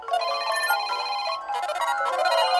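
A bright electronic smartphone ringtone signalling a new incoming message plays a melodic chiming pattern in two quick bursts with a brief dip between, fairly loud, with no talking.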